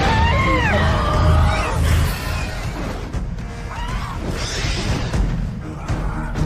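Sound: scream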